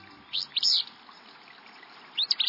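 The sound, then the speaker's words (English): A willow flycatcher, a small gray-green bird singing from atop a shrub in a dense thicket along a stream, sings two short, buzzy, sneeze-like phrases, one near the start and one near the end, clear against a faint, steady background hiss with no voices. “This sneezy song belongs to a willow flycatcher, a small gray-green bird singing from atop a nearby shrub”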